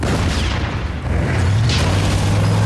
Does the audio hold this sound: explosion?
yes